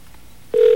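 telephone dialing tones

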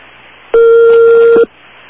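telephone number being dialed

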